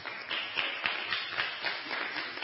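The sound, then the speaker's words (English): An audience claps steadily, many hands overlapping into a dense, even patter with sharp transients scattered throughout, moderately loud and sustained for a couple of seconds. “Yeah, you clap for.”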